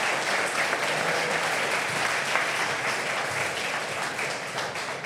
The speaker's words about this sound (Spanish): Pues muchas gracias. Un aplauso para el cronista final. Gracias.